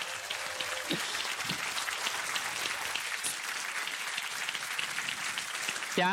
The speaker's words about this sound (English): Please welcome her with a very, very big round of applause.